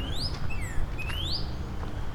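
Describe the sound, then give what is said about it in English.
A male cardinal whistles a few clear, sliding notes, some rising and some falling, over a steady low outdoor rumble with no talking, heard while walking by Turtle Bay. “I can hear cardinals calling at me.”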